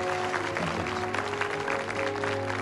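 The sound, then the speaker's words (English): A crowd of delegates applauds while Ambassador Han gets up, goes over to the lectern and shakes hands with the chairman; a steady, dense wash of clapping holds at an even level throughout, with a faint low hum running underneath. “While the delegates clap, Han gets up and goes over to the lectern and shakes hands with the chairman.”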